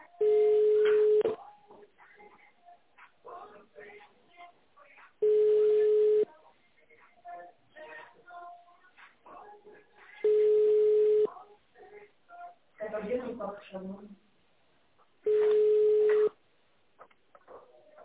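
A telephone ringback tone on a call forwarded to an operator after an automated phone menu sounds four times, each steady mid-pitched burst lasting about a second with roughly four-second gaps, over faint background chatter on a narrow phone line.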